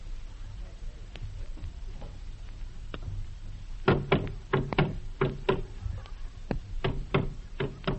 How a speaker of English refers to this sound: Now you hear the overture. First, the conductor's footsteps when he enters the pit.